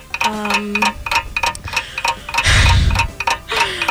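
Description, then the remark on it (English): A game timer clock running a 30-second round before a buzzer ticks steadily in quick, even beats, with a brief low tone at the start and a louder whooshing burst midway, no voices present. “I'm going to give you 30 seconds on the clock, and you will tell me.”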